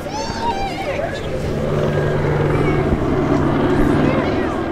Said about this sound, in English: a medevac helicopter circles the sky.